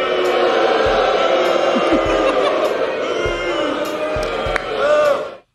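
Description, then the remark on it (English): A loud crowd of US House lawmakers booing in the House chamber on Wednesday as Congresswoman Marjorie Taylor Greene took the floor to force a vote on ousting Speaker Mike Johnson, many voices overlapping in a steady, sustained jeer that swells briefly near the end before cutting off. “The House erupted with booing on Wednesday as Greene took the floor to air her grievances and force a vote on whether or not Johnson should keep his speakership.”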